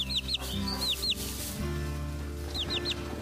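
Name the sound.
hen clucking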